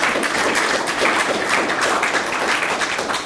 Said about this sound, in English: Okay, let's give a round of applause to our guests for getting through that lightning round.